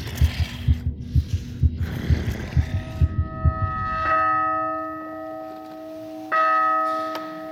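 pounding heartbeat

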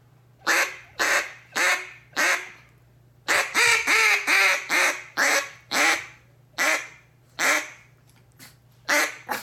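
duck call quacking

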